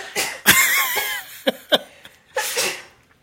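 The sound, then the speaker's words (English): A sharp, forceful sneeze bursts out with a strained vocal edge, followed by a couple of quick huffs and a second breathy, sneeze-like blast near the end. No talking. “Bless you.”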